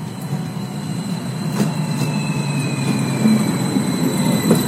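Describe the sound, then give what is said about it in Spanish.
A passenger train, the Insurgente train in central Mexico, rolls steadily along the rails with a constant low rumble, faint high wheel squeals and a few soft clacks, fairly loud with no one speaking. “El tren Insurgente representa un paso significativo para la infraestructura de transporte de pasajeros en el centro de México.”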